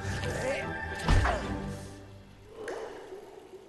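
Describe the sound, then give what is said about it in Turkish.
Water splashes and churns over the rocks of waterfalls with a steady rushing backdrop, broken by a couple of heavy wet thuds as Po leaps across the rocks to reach Master Shifu, plus faint breathy panting underneath. “Şelalelerin bulunduğu kayalıkların üzerinden atlayıp ustası Shifu'nun yanına varmaya çalışan Po yine nefes nefese.”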